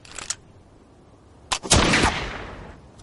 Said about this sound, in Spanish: Ian va a realizar un disparo a solo 10 metros del blanco.